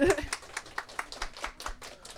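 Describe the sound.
Audience applause of sharp, fairly even claps repeating roughly four times a second for a couple of seconds, at moderate loudness, with a brief voice sound at the very start.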